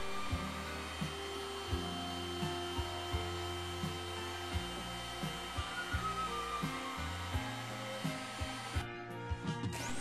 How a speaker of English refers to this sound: Once you've done all the cutting out and drilling, remove the paper from the board. A heat gun helps lift the paper.